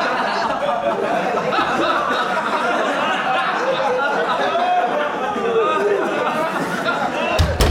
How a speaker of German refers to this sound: So, erstmal die Tür jetzt zugemacht. Die ganzen Fans draußen vor meinem Studio sind ja halt eben tolle Witze, die ich dann reiße, aber die können sich auch nicht beherrschen. Und ich bin hier mitten in der Aufnahme und insofern, ja.